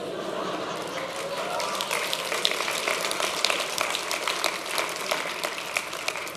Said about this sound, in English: By the way, I didn't say that to receive an applause, but thank you very much.